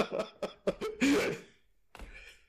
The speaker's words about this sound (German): Würde jetzt sagen, du fragst für einen Freund und räusperst dich da.